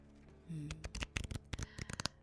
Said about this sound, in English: Now shuffle and deal the cards.